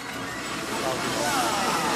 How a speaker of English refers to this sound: We've just got a John Deere coming past the